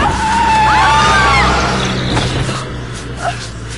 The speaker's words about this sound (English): What happened? They must have lost control. Came right up on the curb. Didn't even stop.